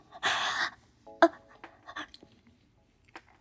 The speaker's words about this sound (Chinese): 哥哥喘得更厉害了。哥哥的呼吸声好涩。